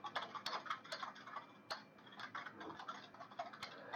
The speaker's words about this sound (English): This typing is actually Foley effects for Rose typing on the computer.